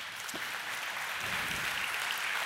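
A church audience applauds: a dense, steady wash of many hands clapping, moderately soft and sustained evenly throughout, with no voices over it.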